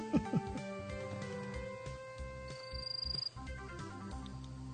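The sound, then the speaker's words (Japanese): A brief, high-pitched cricket trill of rapid rhythmic pulses lasting about half a second, set against a busy background of sustained tones and low rumbling sounds. “何コオロギ聞いとる の。”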